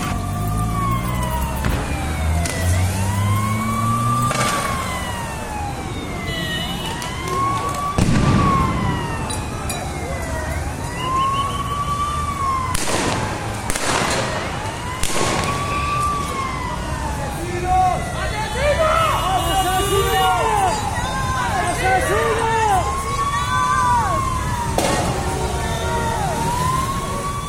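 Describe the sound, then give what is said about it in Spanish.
Wailing sirens rise and fall in a steady repeating cycle over a constant rumble of street and crowd noise as residents of Bogotá demonstrate in their city, with several sirens overlapping in a tangle of pitches toward the end. “Están los bogotanos y bogotanas manifestándose en su ciudad.”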